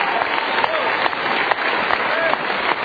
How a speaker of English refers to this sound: Nothing can separate you from the love of God. Clap your hands, church.